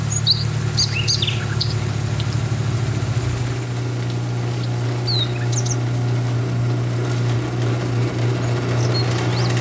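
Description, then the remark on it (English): Birds chirping outside in short, scattered high-pitched tweets, fairly faint, over a loud, steady low rumble like an idling engine that shifts pitch partway through. No one speaks. “Outside, we could hear birds chirping”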